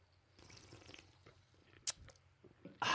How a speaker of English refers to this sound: Were we not supposed to slurp? I slurped. No, I didn't slurp. I hate that sound.